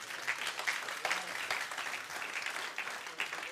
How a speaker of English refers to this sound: Hallelujah. Hallelujah. Give Jesus a hand clap.